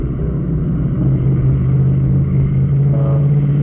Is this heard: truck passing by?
yes